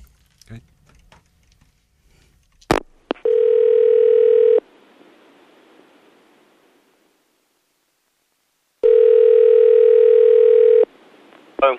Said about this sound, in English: All right. Do you want me to dial the number? Yeah.